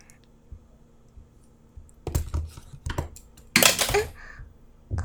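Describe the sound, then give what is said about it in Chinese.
A pen clatters onto a floor, a few quick ticks followed by a brighter, sharper bounce, in otherwise quiet surroundings with a faint background hum. “笔掉了。”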